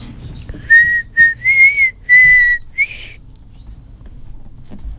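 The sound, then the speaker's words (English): A person whistles the opening phrase of Happy Birthday: a clear, fairly loud string of about six notes at a steady, sing-song pace, with no talking and a low background rumble. “Can you whistle us a happy little tune in honor of DJ Ren's birthday?”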